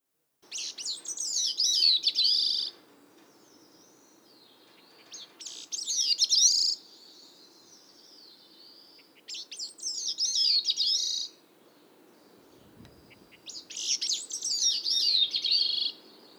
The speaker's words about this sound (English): The Bicknell's thrush song is introduced by 2 to 3 soft plucking notes, followed by vibrant, ringing phrases that slur downward in a manner somewhat reminiscent of the veery. The third of these phrases usually rises in pitch and intensity.